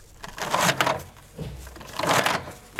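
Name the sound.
paper pulled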